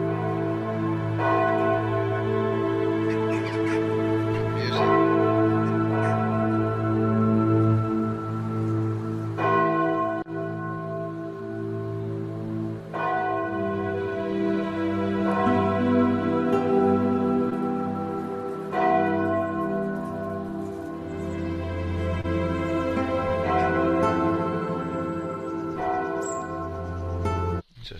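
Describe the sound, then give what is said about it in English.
Large church bells in England ring out for a ceremony in a slow, overlapping peal, with fresh strikes every few seconds and each deep tone humming on beneath the next. The ringing is loud, with no voices. “Okay, they're doing a ceremony with the bells.”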